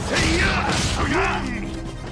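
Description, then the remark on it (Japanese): Heavy punches land in a loud, continuous fistfight scuffle, with sharp thudding impacts mixed with strained grunts and shouting voices throughout. “なんだそのパンチは。”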